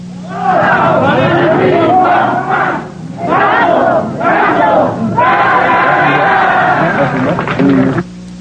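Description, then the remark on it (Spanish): A loud crowd outside Sullivan funeral agency roars, chants and cheers in surging bursts as a coffin is carried to the hearse. Many voices shout together, scattered clapping is mixed into the din, and the sound cuts off abruptly. “El ambiente es electrizante, las porras y aplausos rompen el aire.”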